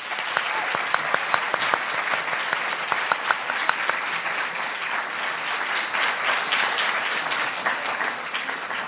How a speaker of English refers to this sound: Thank you. Please join me in giving our panel one more round of applause.